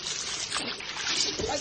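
A cat is thrown into a swimming pool with a splash, followed by steady churning and sloshing water, continuous, with a second splashy burst near the end.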